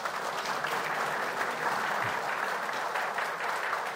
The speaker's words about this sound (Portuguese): Então, se me permitem a informalidade, eu peço um aplauso ao nosso Congresso Nacional.